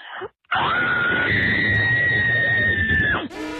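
A single long, loud 'cabin fever' scream from a listener in Chippewa Falls, sent in to WWIB radio's morning show, holds a steady high pitch for nearly three seconds before cutting off sharply, bracketed by brief bits of talk.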